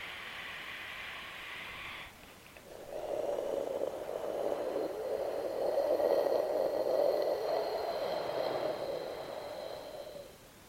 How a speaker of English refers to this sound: The healing sound of spleen and pancreas. It sound coming deep from within. Like you're blowing some flower, which is on your hand, softly, gently away.